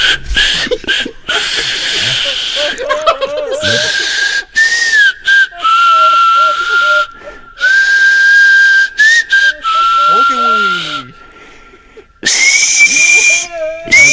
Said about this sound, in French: Siffloteux … sifflote Noël. Et voici Sainte Nuit.